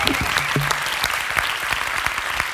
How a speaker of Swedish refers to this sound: Skandiascenen på Cirkus. Det är en helt vanlig regnig torsdag, men det är också en historisk regnig torsdag. För det är Värvet live, och det är inte vilket Värvet som helst, utan det är det 300:e avsnittet. Och ni är alla så välkomna. Applåd till er!